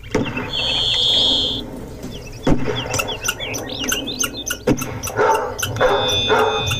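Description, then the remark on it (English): A dog barks in short bursts over a busy backdrop of chirping birds in an exhibit's ambient backyard soundscape, with a couple of sharp gunshot bangs and a high whistle early on. No one speaks. “But we laid on top of that a barking dog who responds to a few gunshots, occasional falling tree, a saw, car pulling up, that kind of thing.”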